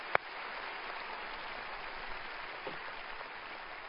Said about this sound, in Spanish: Dele un aplauso a Él. Gracias, Dios.